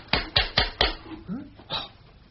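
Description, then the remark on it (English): Four quick, evenly spaced knocks on a door, sharp and fairly loud, followed by a brief vocal sound and a short rustling burst. “somebody at the door.”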